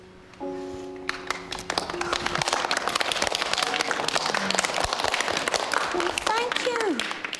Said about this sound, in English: That round of applause.